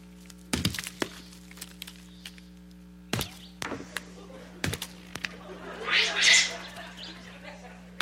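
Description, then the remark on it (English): Capuchin monkeys crack extremely hard palm nuts with stones: a few loud, sharp knocks land at irregular intervals, with softer taps between and a brief burst of high, squeaky chatter near the end. “And so the capuchin monkeys crack nuts with stones too.”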